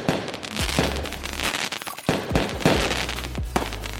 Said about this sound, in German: Denn um Punkt 22 Uhr des Geburtstagsabends ging ein gigantisches Feuerwerk los.